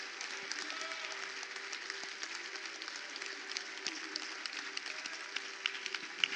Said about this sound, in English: Would you give God a big old hand clap right now? Would you just give God a shout right now?